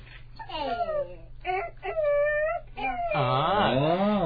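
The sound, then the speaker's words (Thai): During a picture-book reading, children's voices imitate a father rooster's crow in a series of drawn-out, wavering vocal cries that glide up and down in pitch, ending in a louder overlapping chorus of several voices. “ไก่ขันว่าเอกอีเอกใช่ไหมเอกอีเอกเอกนี่เปิดหน้าถัดมาก็เป็นพ่อไก่กำลังขันเลยบอกว่าเอกอีเอกเอกเสียงขันพ่อไก่ปลุกคนหลับไหลให้ตื่นลืมตา”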